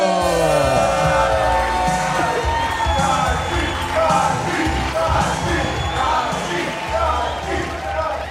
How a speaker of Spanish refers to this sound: Fuerte aplauso.